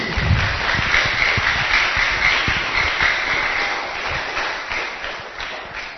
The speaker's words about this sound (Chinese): 小朋友，要不要给师父掌声鼓励？